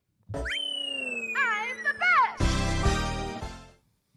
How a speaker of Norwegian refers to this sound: Jeg har hørt en bil I bakgrunnen, Mario Kart. Det Mario Kart. Mario Kart 64 når du kjører I mål.